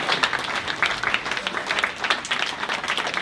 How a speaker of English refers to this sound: This is Angel. Give Angel a round of applause.